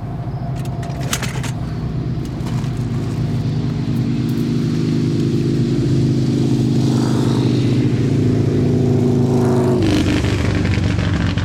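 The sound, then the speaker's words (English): Motorcycle engines drone steadily throughout at night, a layered low rumble with rising and falling pitch as riders pass back and forth, with a brief metallic jingle early on and a louder surge near the end. “Guys are riding back and forth on their motorcycles.”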